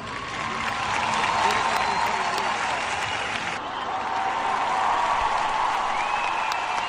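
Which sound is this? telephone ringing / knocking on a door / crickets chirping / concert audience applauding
concert audience applauding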